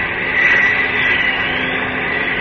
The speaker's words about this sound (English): Yes, that does sound like a plane. Above me and coming this way. Up! Up! It's a plane, all right. I'm sure of it. I can't see it yet, though.